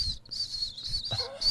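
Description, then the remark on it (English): A small dog whines and cries in thin, high-pitched swells that rise and fall almost without pause, with a brief lower yelp near the middle and no talking. “Actually, the little dog, he kind of cries and goes.”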